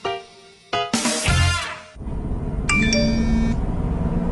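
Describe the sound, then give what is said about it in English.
A phone notification ding sound effect, not a real phone, sounds with bright, high chime tones ringing out in two short bursts over a low, steady background rumble. No one speaks. “That wasn't your phone. It was a sound effect.”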